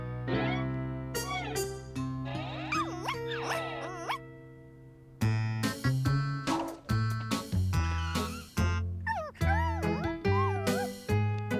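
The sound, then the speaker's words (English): A female puppy yips and barks in quick, high-pitched bursts, fairly loud, repeating at an uneven rhythm over a steady tonal hum, with whiny pitch bends between yelps. “What a sweet little puppy you are.”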